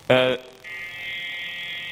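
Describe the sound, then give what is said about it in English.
A phone vibrates against a cupboard: a short, loud, rattling buzz bursts out first, then a steadier, thinner high-pitched buzzing hum carries on evenly to the end. “So this sound, this is the cupboard.”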